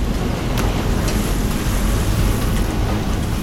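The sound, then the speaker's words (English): Waves crash and surge around a sinking, listing cruiser as men clamber into its flooded main deck, a steady roaring wash of water with wind noise and deep rumbling underneath, loud and continuous with no voices. “From inside the front section of the stricken cruiser, men clamber into the flooded main deck, waves crashing all around them.”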